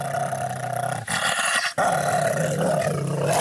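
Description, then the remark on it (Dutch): A dog growls loudly in a continuous, rough snarl, broken by a brief pause before the growling resumes with steady intensity. “En er komt nog wel eens een hond achter je aan.”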